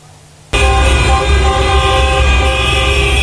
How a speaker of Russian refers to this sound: Они не в пробке гудят, они гудят приветственно. Вы разве не слышите приветственное?